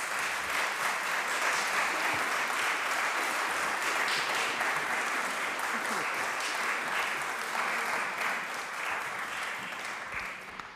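An audience claps after a lecture steadily for about ten seconds, a dense, even patter of many hands at a constant loud level, tapering only slightly at the end.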